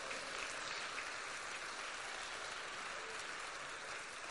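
A crowd claps steadily and continuously in applause to God, a dense wash of many hands applauding together, with no pauses and no voices standing out.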